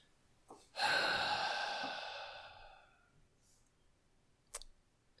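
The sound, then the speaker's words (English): A single long, hissing breath drawn through a breathing apparatus worn tight around the face fades out over about two seconds. A soft click comes just before it and another sharp click follows, with no talking. “You know, this breathing apparatus is, like, tight around my face.”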